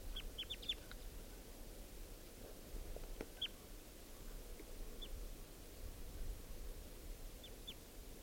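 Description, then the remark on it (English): A barely fledged wild baby bird, one of a pair in a net, recorded at 10:09 a.m. from right next to it, gives thin, high-pitched chirps, a quick cluster at first and then single peeps spaced apart, faint over a steady low rumble and hiss. No one speaks. “Recording with a wild bird here now.”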